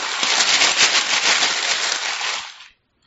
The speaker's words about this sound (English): Okay, now in my box, there's some paper and another box. Right, okay. All right. This is what the paper sounds like.